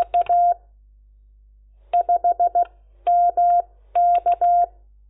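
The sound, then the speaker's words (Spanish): Morse code telegraphy of the letters E A, sent run together: a steady, mid-pitched keyed tone beeping in several quick bursts of short and longer elements, separated by brief pauses, with no talking. “En cuando lo dan en telegrafía, normalmente lo dan así. EA, seguidito.”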